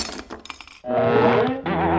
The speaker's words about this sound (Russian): Ой, кружка разбилась.